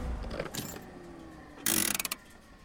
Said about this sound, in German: Kaum 10 Meter vor ihnen erleuchtet der Wagen mehrere dicke Stämme, wo die Straße eine scharfe Kurve macht. Lola schaltet den Motor aus.